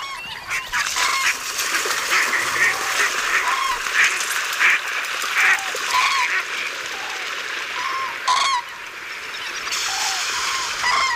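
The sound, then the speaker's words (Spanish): A dense, continuous chorus of ducks and cranes calling over one another on the water at dawn, with honking and quacking voices in a constant wash, the occasional louder call standing out from the flock, as the ducks return and the cranes leave. “Patos y grullas al amanecer.”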